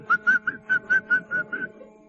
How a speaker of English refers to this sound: I noticed a man whistling.